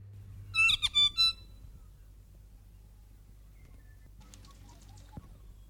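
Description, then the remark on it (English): A saddleback (tīeke) gives a loud burst of three quick, rasping chattering notes, then fainter scattered chatter follows after a pause, with low background rumble throughout. “I thought there was a bit more noise in that call.”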